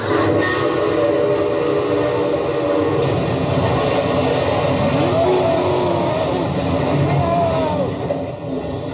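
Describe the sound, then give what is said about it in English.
A train crash sound effect in a radio drama: a loud, dense roar of rumbling and clattering that barely lets up for nine seconds, with shrill whistle-like tones sliding through it before it fades slightly at the end. “That's about the noisiest crash that's ever been on radio.”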